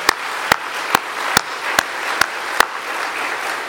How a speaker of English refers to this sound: You know what? Can we give an applaud to the Lord? I just feel like celebrating.